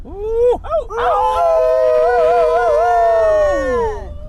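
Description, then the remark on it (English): A few people wearing plush wolf hats howl together in imitation of wolves to cheer on a teammate in the dark: short rising yelps, then a long, loud, wavering howl held for several seconds before trailing off. “We're howling and wearing plush wolf hats because our team is named Wolf Taco.”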